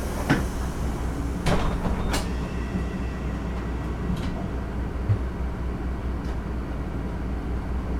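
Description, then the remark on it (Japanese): Bus doors shut with a few sharp clunks and brief hissing bursts in the first couple of seconds as a route 31 Kashihara Jingu-mae Station West Exit line bus prepares to depart, over a steady low engine rumble that continues throughout. “では閉まります。ご注意ください。”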